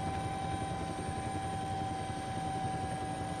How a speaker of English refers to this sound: A great flock of seagulls have just risen up from the sea, obviously scared by the sound of the helicopter rotors.